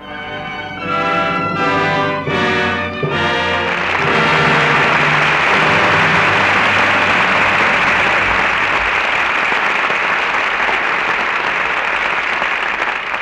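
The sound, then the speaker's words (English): A few seconds of swelling orchestral chords give way to loud, sustained applause from a large studio audience at the end of a dramatic performance, a dense wash of clapping that continues steadily to the end. “Your applause rings down the curtain on Lydia, and some acting we won't soon forget.”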